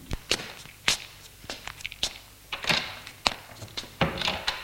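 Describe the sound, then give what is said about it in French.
Footsteps of a man getting up and leaving a room walk at a steady, unhurried pace, about eight distinct heel strikes with sharp, crisp clicks and light scuffs on a hard floor, moderately loud, with no voices. “se lève et sort de la pièce.”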